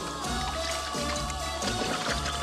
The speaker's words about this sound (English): Junior dumps candy out of a piñata. He fills it with pickles and liquid from jars in the fridge.